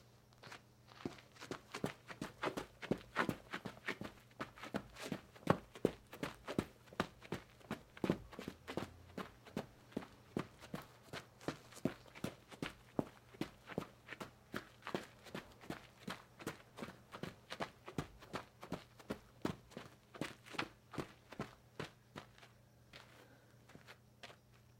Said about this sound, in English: Boots, running at night.